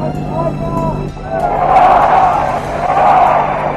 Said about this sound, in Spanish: Aplausos de la multitud, como todos ustedes pueden oír. Mientras tanto, gritos también de libertad, libertad.